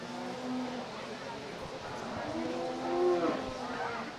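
A cow moos twice at a cattle showmanship class, a short low call followed by a longer, louder drawn-out one, with steady outdoor background noise throughout.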